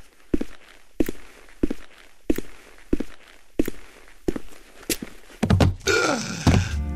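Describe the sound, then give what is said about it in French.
Nine heavy, thudding footsteps of Thor, the god of thunder, at a slow, steady pace, each a dull booming impact, followed by a louder, rumbling crash as he collapses onto the earthy ground. No one speaks. “Thor a le temps de faire 9 pas, pas un de plus.”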